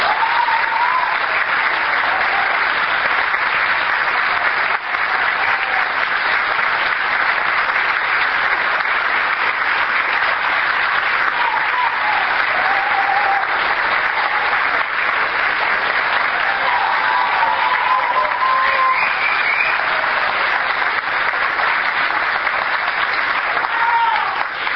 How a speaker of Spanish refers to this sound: Tenemos un invitado en el día de hoy muy especial, y que cuando lo nombren sé que lo van a aplaudir con la misma calidad y calidez que lo sentimos.